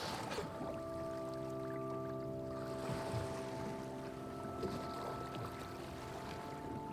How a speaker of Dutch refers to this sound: Wat ga je het meeste missen? Ja, dit, hè. Gewoon het bootje hier, zo, dan op zee. Ik kan eigenlijk wel gek stoppen met vissen, hè. Het is fantastisch, dit.